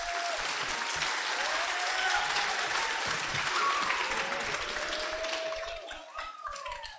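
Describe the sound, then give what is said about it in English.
Sustained audience applause welcoming a speaker about to talk on the International Space Station and amateur radio contact with it: a dense crackle of many hands clapping steadily for several seconds, with faint scattered whoops and voices mixed in before it begins to thin out near the end. “So everybody give Mr. Hoops a round of applause.”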